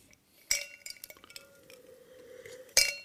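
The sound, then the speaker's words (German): Two bright glass clinks, about two seconds apart, as glasses of white port wine touch in a toast. The first leaves a clear, high ringing tone that hangs and slowly fades before the second sharp tap. “Und jetzt müssen wir mal, ich würde mal sagen, Cheers. Sláinte.”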